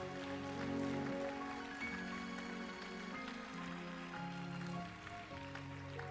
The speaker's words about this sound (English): Let's give the Lord a hand clap of praise in this place.